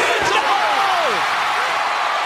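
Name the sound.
arena crowd cheering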